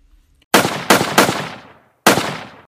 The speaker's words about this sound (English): The Pilgrims planted the first harvest and celebrated by shooting guns and cannons, which alerted the Wampanoags because they were not sure who the Pilgrims were shooting at.